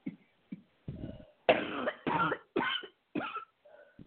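coughing

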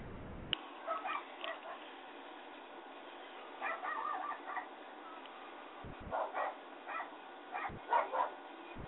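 dog barking next door

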